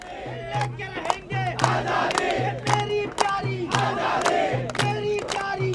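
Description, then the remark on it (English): A small marching crowd chants the slogan "Azadi" (freedom) in unison, repeating it in a steady call-and-response rhythm, with sharp percussive beats punctuating the chant. The chanting is loud. The march crosses a state in India in support of striking Dalits. “A march across the state in support of the striking Dalits starts with a small crowd crying Azadi, or freedom.”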